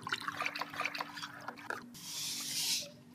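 Small splashes and drips give way to a steady, rushing pour of water that swells for about a second and then tapers off, with no talking, as water is poured into a tank holding water of average ocean composition for a water-density demonstration.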